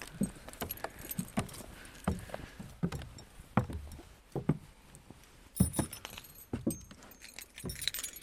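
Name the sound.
bunch of keys jangling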